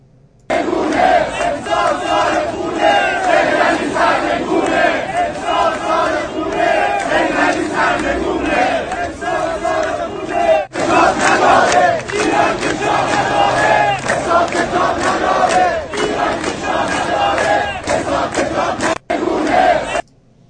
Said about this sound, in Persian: حالا باز داریم جلوتر، خیلی بیشتر، خیلی شدیدتر این شعار داده میشه، خیلی بلندتر که دیگه نگه مثلا چند نفر دور دوربین بودن این شعار رو دادن نیست، طبعا یه بخش از جمعیت دارن این شعار رو میدن.